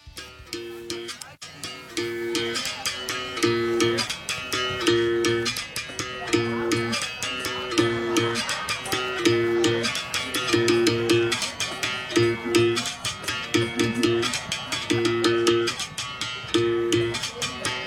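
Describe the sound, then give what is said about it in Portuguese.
Berimbau sound played as children demonstrate capoeira, a steady capoeira rhythm repeating a twangy two-note pattern with buzzing metallic overtones and quick rattling strikes, loud and continuous throughout without any voices. “Eu vou botar o som do birimbau aqui e eles vão mostrar um pouquinho dessa arte, porque é uma arte, hein?”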